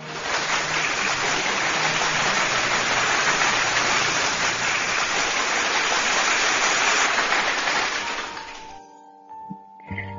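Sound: applause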